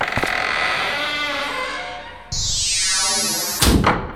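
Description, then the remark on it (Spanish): A rusty door creaks open in a long, wavering groan that turns into a shrill, rising metallic squeal, then ends with a sharp bang as it stops. “¿Y esa puerta oxidada?”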